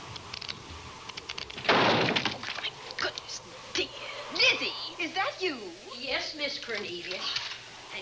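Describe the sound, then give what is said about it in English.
A door is blown open by strong wind with a loud, rushing crash of noise, settling into muffled bumps, then people start talking. “The wind nearly blew the door off its hinges.”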